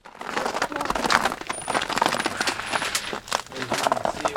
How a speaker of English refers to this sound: Ice crunches outside the modest Robin's Egg Blue home